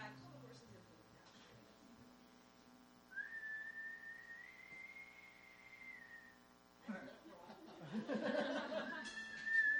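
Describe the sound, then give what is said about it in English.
A person whistles a single long, sustained note that rises slightly and holds, imitating a loon's call, over a low background hum, followed by bursts of laughter and voices. “It's like a loon. Mine is a loon call.”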